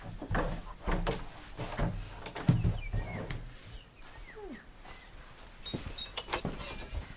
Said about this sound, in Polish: Zostawmy te drzwi otwarte. Jest ładna pogoda, się zrobiło. Otwieram na oścież.